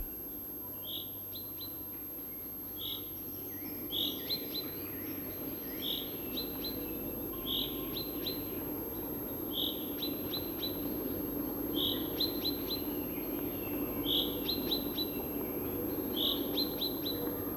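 A chaffinch's rain call: a short, bright note repeated about every two seconds, roughly nine times, steady, over a soft low background hum with no voices.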